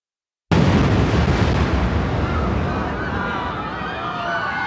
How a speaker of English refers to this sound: Ramzi Youssef and Iyad Ismail, a Jordanian associate, drove a yellow Ryder van into the underground parking garage of the World Trade Center, parking on the B2 level. Youssef ignited the 20-foot fuse and fled. 12 minutes later, the bomb went off.